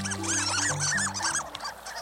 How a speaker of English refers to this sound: Some ducks don't sound like ducks at all. Some, like the harlequin, squeak, earning them the nickname of sea mice.